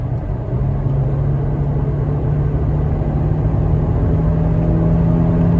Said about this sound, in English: Hear that engine? Yeah. I have to say, man, this car built between what? 2003 to 2005 C320 4MATIC. This is probably the epitome of German engineering, if you ask me, man.